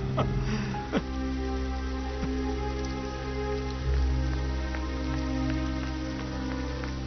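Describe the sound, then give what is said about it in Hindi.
Steady rain falls continuously, a dense, even patter with a few sharper drops and taps standing out. No voices are heard; the sound stays at a constant moderate level throughout. “देखिए बारिश हो रही है।”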